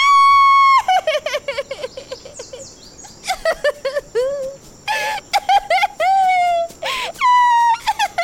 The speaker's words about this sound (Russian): И вдруг, как будто кто-то включил громкость на полную мощность, раздался чей-то плач.